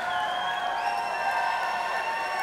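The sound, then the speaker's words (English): An audience screams and cheers together for banter in a steady, loud roar, many high-pitched voices overlapping in sustained shrieks for the whole stretch without a break. “And like a wild pack of animals screaming for banter.”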